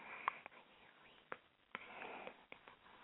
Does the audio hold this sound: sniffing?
yes